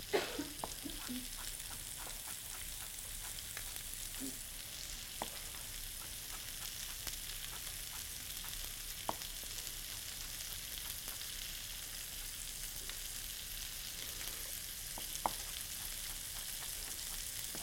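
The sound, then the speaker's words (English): Steady sizzling of food frying in a hot pan on an electric stove, a constant crackling hiss with scattered sharp pops and spatters, moderately quiet, with no one talking. “Yes, the electric stove is always interesting. Lucky for us, it stayed hot.”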